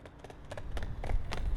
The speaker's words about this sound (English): Hearing the sound of running, the two brothers look up to see that the other X-Men have arrived in full costume, running in, ready for a fight.